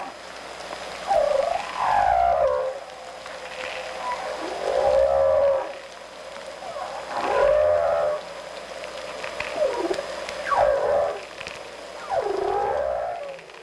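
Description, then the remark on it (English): Humpback whale song: a series of about six long, moaning, swooping calls rising and falling in pitch, each lasting a second or two, separated by brief pauses over a steady underwater hiss. “The waters surrounding Gill Island have recently been identified by the Department of Fisheries and Oceans as critical habitat for humpback whales.”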